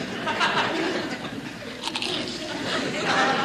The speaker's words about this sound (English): snacks on a bowl of potato chips as he reads over Archie's shoulder